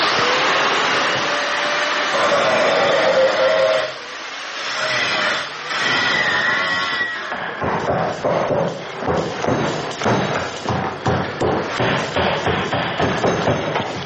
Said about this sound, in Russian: Я продемонстрирую, как, например, звучит металл, который режется так называемой флекс-машиной. Это грубый, такой брутальный звук, но мне этот звук родственен, я люблю этот звук.